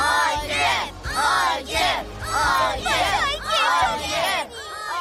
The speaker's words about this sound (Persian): انگار جمعیت به همین زودی دارن تشویق میکنن.